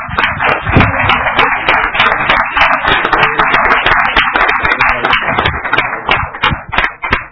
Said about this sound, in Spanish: Si les pido un aplauso para él.